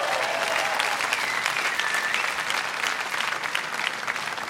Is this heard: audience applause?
yes